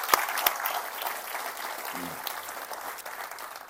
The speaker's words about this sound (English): I think it's just deserving just to maybe just give him a round of applause.